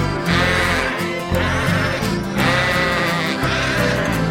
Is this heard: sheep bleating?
yes